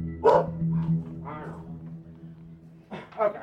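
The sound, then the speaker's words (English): A caged bulldog barks a few times in short, gruff bursts, with a pause before a final pair of barks, over a low steady background hum. “So I opted to just stand there and listen to his caged bulldog bark at me.”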